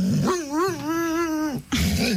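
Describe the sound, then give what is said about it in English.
A dog lets out one drawn-out, wavering growl with a whiny, grumbling pitch, fairly loud, throwing a temper tantrum because a cat has taken her bed; then a short rough burst of noise follows. No one speaks. “couldn't really do this during animal stories, but we have a dog that threw a temper tantrum because the cat stole her bed.”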